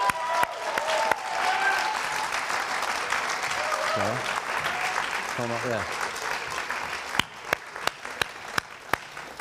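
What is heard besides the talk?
audience clapping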